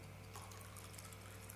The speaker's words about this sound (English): for the sake of those listening on the microphone, I am now filling a glass of water to the very top.